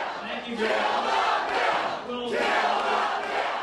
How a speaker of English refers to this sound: The latest example, a town hall meeting last night in Romulus, Michigan. Some in the crowd confronted Democrat John Dingell, the longest-serving member of the House. At one point, they led a cry to kill the bill.